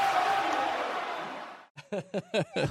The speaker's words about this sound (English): So excited. Do you hear the crowd? Yeah, that's the best. It almost blew the top off of MSG.